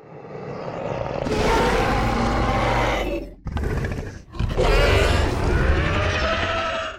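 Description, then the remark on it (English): A loud, monstrous Indominus Rex dinosaur roar sound effect built from layered animal sounds, including a pig and a fox, harsh and growling with shrieking overtones, coming in a long blast, a brief burst, then another long roar, with no talking. “Here is the Indominus Rex roar.”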